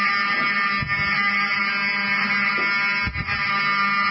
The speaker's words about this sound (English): Open the door. I want them to hear the fire alarm. Open the door. I want people to hear this live to the 16 million people listening.